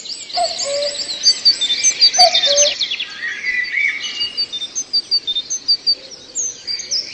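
Small birds chirp and twitter in a garden and house in a busy, overlapping chorus of quick high-pitched calls, steady throughout, with no voices present.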